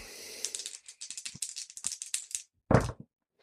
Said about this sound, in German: Würfele erneut hier.